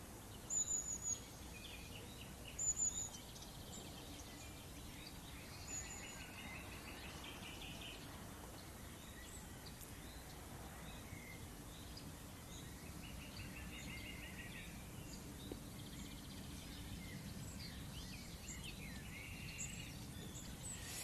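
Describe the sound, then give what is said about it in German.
Two common nightingales sing, their bright, high phrases rising in short intermittent bursts over a steady background hiss, with no one talking. “Es sind gerade 2 Nachtigallen, die singen.”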